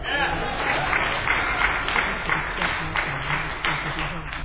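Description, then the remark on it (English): An audience claps steadily for several seconds, a dense, even wash of many hands with no breaks, with some crowd voices murmuring underneath. “All the hands that were raised didn't applaud on the second position.”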